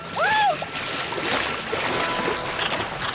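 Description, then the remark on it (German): Water splashes and sloshes steadily for a few seconds, a continuous wet churning texture, with a brief voice-like rising and falling tone near the start. “Boah, das Wasser ist hier so authentisch, Alter.”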